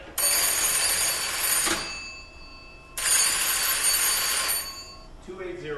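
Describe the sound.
A Chadburn engine order telegraph bell on the ship Badger rings as orders are given to the boiler room crew while the ship leaves the port of Ludington on the Great Lakes. It sounds in two loud, sustained bursts of bright metallic jangling, each lasting over a second, separated by a short pause, with a faint voice at the end.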